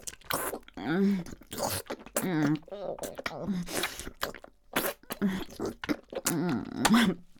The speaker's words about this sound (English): Do you like how I suck it deep and then apply suction on the way up? Slurping off all that spit.